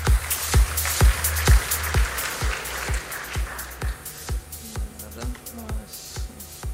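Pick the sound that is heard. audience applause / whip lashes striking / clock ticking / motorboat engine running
audience applause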